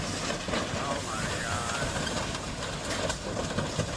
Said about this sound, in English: And believe it or not, this is how long it takes to stop a train. Trains don't want to stop.